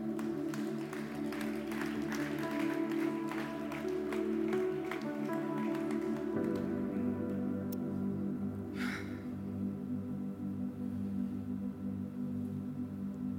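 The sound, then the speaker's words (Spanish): A church audience applauds over steady, sustained music. Dense, rapid clapping fills the first half, then thins out and fades while the held musical tones carry on. “Si quieren aplaudir, aplaudan bien, pues.”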